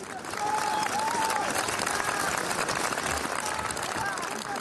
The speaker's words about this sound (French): Voilà, la cérémonie s'est terminée il y a quelques minutes. Les invités et la foule ont applaudit longuement le cercueil noir de l'acteur suivi par sa femme.